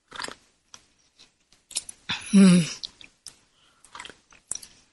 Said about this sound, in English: And I need to take a sip of my tea here.